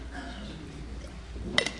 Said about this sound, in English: First, I'm going to take a drink of water.